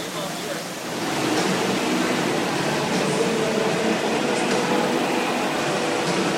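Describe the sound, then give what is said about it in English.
A steady, loud roar of rushing water fills the indoor water park Splash Lagoon in Erie, Pennsylvania, during the Drenchfur 8 event, swelling slightly after the first second and then holding constant throughout. “And good joining us today is Gary here at Splash Lagoon.”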